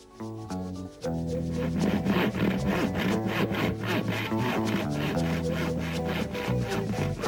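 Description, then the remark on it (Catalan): A saw cuts a ball into three pieces in quick, steady rasping strokes, about three per second, loud and continuous after a brief opening, with sustained musical tones running underneath. “Primer el cuc va donar una mossegadeta a la bola i després va encerrar-la en tres trossos.”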